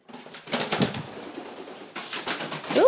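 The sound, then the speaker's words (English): A pet parrot in a kitchen flutters its wings in rapid, rustling bursts, pauses, flaps again, then gives a short squawking call at the end. She flew into the door by the conservatory. “My parrot's just flown in the kitchen.”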